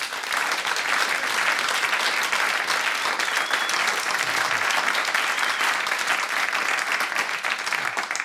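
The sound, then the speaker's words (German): Sustained audience applause, a dense steady wash of many hands clapping at an even loudness for the whole stretch, with no voices standing out. “Nochmal einen großen Applaus für unseren Gast heute beim Podcast Festival, beim Talk hier auf Bayern 2 für Karl Theodor zu Guttenberg.”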